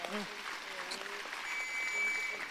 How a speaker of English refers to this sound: Let's give God a huge clap of praise.